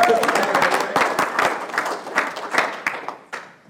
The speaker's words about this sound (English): You don't have to clap. I guess you already did.